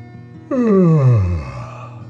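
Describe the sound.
A single drawn-out voiced yawn, fairly loud, starting high and sliding steadily down in pitch before trailing off into quiet. A voice acts out a boy's yawn in a story as he walks home; no words are spoken.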